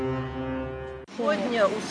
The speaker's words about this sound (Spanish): Hoy me emocioné al escuchar la sirena de un barco otra vez.